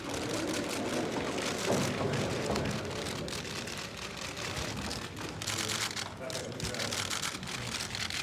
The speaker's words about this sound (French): À part les ordres des gardes du corps, on n'entend que les crépitements des appareils photo.